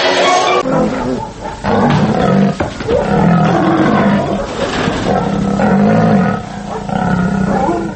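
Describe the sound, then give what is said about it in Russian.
Lions and tigers in a circus ring, performing in a trainers' act, roar and snarl, deep overlapping roars rising and falling continuously for several seconds, loud, with no voices. “Если вы послушаете, просто послушайте, а не посмотрите работу, допустим, дрессировщиков тигров, львов, вы услышите совершенно определенную звуковую кулису, которая свойственна только этим номерам.”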